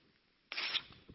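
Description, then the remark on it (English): A single short, crisp rip of one small piece of paper bursts in after a quiet moment, a bright tearing rasp lasting about a quarter second, followed by faint rustling. “That's just one little piece of paper.”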